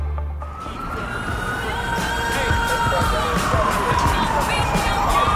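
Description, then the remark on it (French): A wailing emergency siren slowly rises and falls over dense, noisy New York City street ambience with traffic rumble and a murmur of voices, steady and fairly loud throughout. “Il suffit d'entendre ce bruit pour savoir où nous sommes, les sirènes, ça fait partie de la magie. Bienvenue à New York, bienvenue.”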